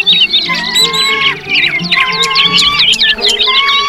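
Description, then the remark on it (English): A busy chorus of birds chirping and chattering as they fly off in all directions, with overlapping high tweets and trills continuing steadily throughout, fairly loud, no voices. “They chirped and chattered as they flew off in all directions, collecting twigs and little branches from the whimsical whispering woods.”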